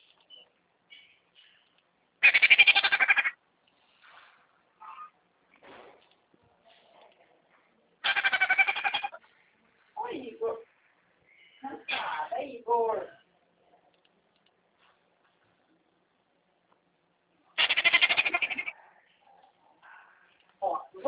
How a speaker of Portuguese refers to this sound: É uma arara, uma maritaca? Isso. Bonitinha.